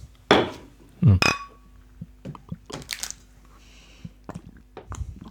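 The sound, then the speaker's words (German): A single bright clink of glasses touching in a toast, ringing briefly, followed by soft scattered handling noises and small sips. “Prost.”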